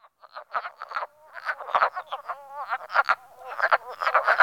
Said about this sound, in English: Can you tell which frog makes which call? Wood frogs.